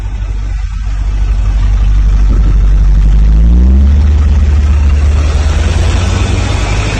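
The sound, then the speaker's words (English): A police car engine idles at Epic Showground with a steady, heavy low rumble, briefly rising in pitch as it revs midway before settling back to a constant drone. No one speaks. “This is coming out of Epic Showground, and it's a police car with a microwave radiation.”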